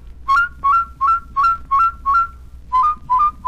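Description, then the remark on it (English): Nine short whistled double notes in a steady rhythm, each flipping quickly from a lower pitch up to a higher one between the mouth and the throat. The whistling is clear and moderately loud, with a brief pause before the last three. “Up close to the mouth, that is, between the mouth and the throat. Now practice flipping them like this.”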